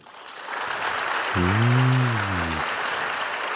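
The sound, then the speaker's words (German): An audience applauds, a dense steady clatter of clapping that builds within half a second and holds to the end, with a sustained, tonal cheer rising over it for about a second. “Jetzt euer Applaus.”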